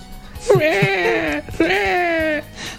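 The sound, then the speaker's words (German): A person's voice mimics a whimpering baby in two drawn-out, wavering wails, each sliding slightly downward in pitch, fairly loud with a short pause between them. “Es ist immer wieder schön, wie du wieder auf Stichwörter reagierst.”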